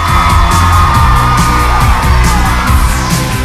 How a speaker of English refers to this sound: The girls clap and cheer.